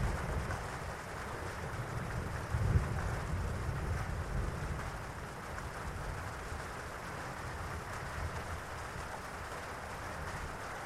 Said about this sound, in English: Each and every raindrop just allows you to relax even further.